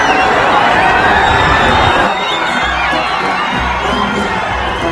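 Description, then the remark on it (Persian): A large crowd shouts and cheers continuously as the Leader's car reaches each part of the crowd, a dense roar of many voices with high whoops rising over it, loud and sustained for the whole stretch with a slight dip partway through. “این صدای فریادی که میشنوید لحظه‌ای که ماشین رهبر به هر بخشی از جمعیت میرسه.”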